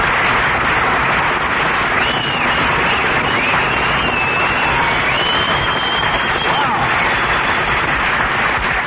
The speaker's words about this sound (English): Well, listen to that, Mary. You got, you got more applause than I did.